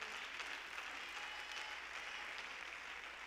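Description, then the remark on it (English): A crowd applauds steadily, many hands clapping at once in a dense, continuous wash of sound that holds at an even, moderate level throughout, with no voices standing out. “Come on, clap a little more on that.”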